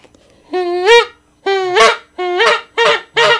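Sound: geese honking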